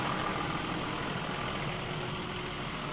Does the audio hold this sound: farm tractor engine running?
yes